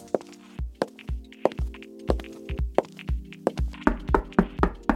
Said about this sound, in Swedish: Så ja, du får väl knacka på nu då.